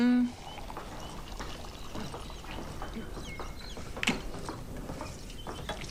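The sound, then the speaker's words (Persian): A house-made summer beer pours steadily from a tap into a glass in mid-morning. It is a continuous frothy splashing with a brief tone at the start and a single clink partway through, with muffled voices in the background. “هیچی مثل یه آبجو وسط صبح آدم رو سرحال نمیاره.”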